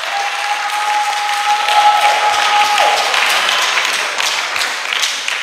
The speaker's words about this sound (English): She has been taught. Clap for her.